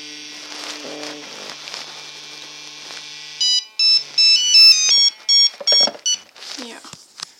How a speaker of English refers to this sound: So the thing is the vibration. Before it, my phone starts ringing, or my mom's phone, old phone, it's vibrating really much, and the same thing happens when I got a text message.